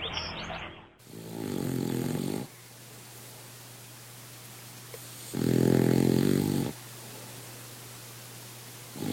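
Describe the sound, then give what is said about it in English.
A small King Charles Spaniel snores in its sleep: two long, rasping inhalations several seconds apart, with a faint steady hum and quiet breathing in between. “That's the sound of a King Charles Spaniel named Chubby sleeping.”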